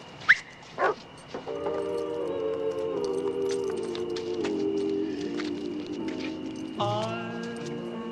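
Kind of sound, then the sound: animal, dog barking and whimpering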